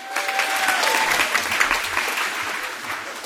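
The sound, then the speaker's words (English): An audience claps steadily for a few seconds, a dense even wash of many hands with a few faint whistles or cheers rising above it. “You'll be clapping a lot more when that bomb goes off.”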